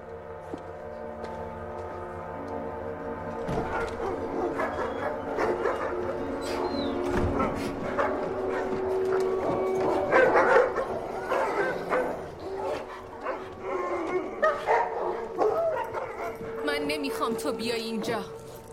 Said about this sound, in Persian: پدرم گفت سگاتو ساکت کنی. تو را اگه گوش نکنی اون سگاتو میکشه دوباره.